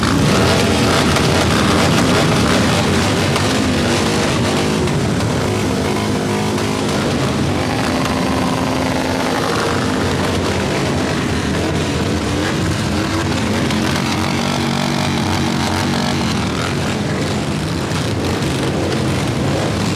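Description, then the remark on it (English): A loud, continuous roar of many vehicle engines being started and revved together by a group of people, dense and sustained throughout with rising and falling pitches overlapping, no talking. “we've got enough people to recreate our own little roaring thunder, so I can say without further ado, gentlemen, start your engines.”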